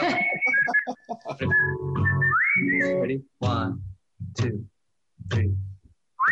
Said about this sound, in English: I'm going to warm up the whistle. I have a whistle in a little while. Is that what that was? Ready?